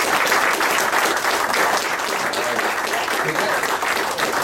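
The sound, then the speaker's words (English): Sustained audience applause for the veteran broadcasters who spoke that evening, a dense, steady wash of many hands clapping at an even loudness for several seconds with no pauses. “Let's hear it for all the guys who got up tonight, the golden years of broadcasting.”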